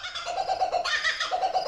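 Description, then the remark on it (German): A bird's raucous laughing call rings out in rapid, chattering bursts, loud, rising into a cackling peak before settling back into repeated hoots, with no voices over it. “Sie verabschieden sich vom Dingo und hören nochmals das Lachen vom Vogel.”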